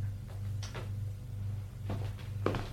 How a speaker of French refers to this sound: La secrétaire appuie sur le bouton pour refermer la porte.